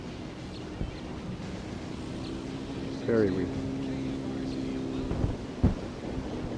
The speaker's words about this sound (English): It's kind of windy right here now.